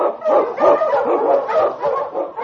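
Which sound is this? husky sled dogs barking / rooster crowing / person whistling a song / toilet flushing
husky sled dogs barking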